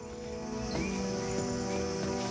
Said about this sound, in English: Night has fallen and the barge is anchored up beside the riverbank.